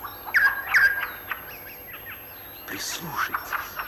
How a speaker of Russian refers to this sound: Прислушайтесь, какой разноголосый гомон слышится в лесу. Все птицы поют, кричат и щебечут одновременно. Такой шум бывает только на рассвете.